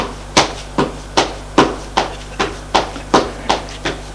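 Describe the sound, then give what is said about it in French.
Footsteps climbing or descending stairs: about eleven firm, evenly spaced thuds in a brisk steady rhythm, each sharp and woody, over a low constant hum with no voices. “Discussion dans le couloir, des pas dans les escaliers.”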